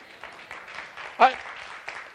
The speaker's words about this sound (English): you don't have to applaud my license plate, but part of what this means is I have to drive nicely, right?